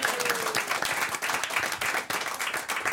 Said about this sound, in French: Alors avant d'aller les applaudir, on applaudit Marine Baousson et Charles Nouveau.